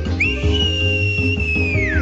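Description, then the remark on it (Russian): A boy whistles shrilly while running back and forth on the far side of a stream, calling a lost dog: a high whistle holds one steady note for nearly two seconds, then slides downward at the end, over a continuous low musical backing. “Мальчик бегал взад и вперед по той стороне ручья, пронзительно свистал и кричал громко с беспокойством и испугом.”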